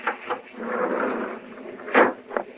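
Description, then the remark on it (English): A heavy train carriage door is worked open with a sustained grinding scrape, then a sharp clunk and a smaller knock. Fairly loud, with no voices. “We worked the door open and started down the corridor.”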